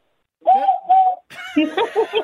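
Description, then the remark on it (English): A person vocally imitates a kookaburra call: two wavering, hooting tones in a row, then a burst of rhythmic, chuckling laughter. “That was the least kookaburra sound I've ever heard.”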